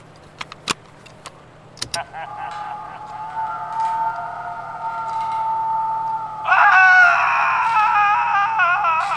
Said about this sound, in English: What happened? I heard screaming. That was just my never-fail Halloween mixtape.